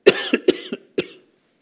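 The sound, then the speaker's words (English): A quick run of about five harsh coughs, fairly loud, coming in an uneven burst over roughly a second before falling silent. “And there's not, excuse me, I'm going to have a coughing spell.”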